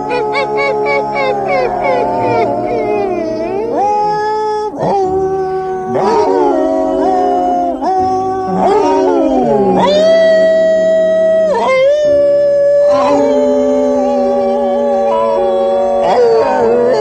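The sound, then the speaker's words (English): Several stray dogs in cages at a dog pound whimper and cry in long, wavering, high-pitched whines, loud without pause, broken now and then by short yelping barks; a little gray dog cries and barks and a young mutt whimpers. “A little gray dog cries and barks. In another cage, a trio of puppies huddle together forlornly. A young mutt whimpers.”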